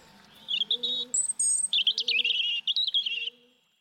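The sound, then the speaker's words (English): A robin sings a bright, warbling phrase of high, rapidly varying notes and trills, clear, with a soft low cooing underneath, about three seconds long. “Robins, tough little bastard there.”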